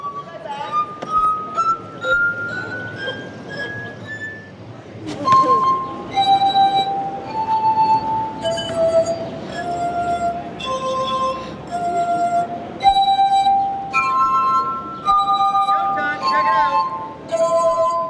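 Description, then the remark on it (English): Glass harp: a street busker in Jackson Square rubs wet fingertips on water goblets into sustained ringing tones, tuning them by removing or adding water with a turkey baster. One note slowly rises in pitch, then a melody of clear, overlapping, bell-like notes follows at a steady, moderate volume. “By now, several tourists with plastic cups of beer have stopped to watch this animated man with the white beard and ponytail fill his water goblets.”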